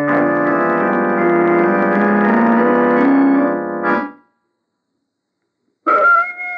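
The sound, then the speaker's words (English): A dog lets out a long, loud, drawn-out howl lasting several seconds, falls silent, then starts howling again. No one speaks. “Listen to that dog. He knows what we're doing.”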